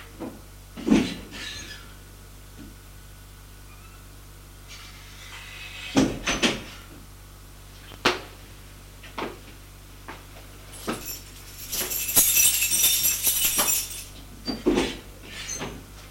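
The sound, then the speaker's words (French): Several solid clunks and knocks, like a door being handled and shut, with a brief airy hiss in the middle and no one speaking. “Avant de fermer la porte, elle lui fait la bise et lui dit « Bonne nuit ».”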